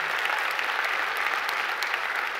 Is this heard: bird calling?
no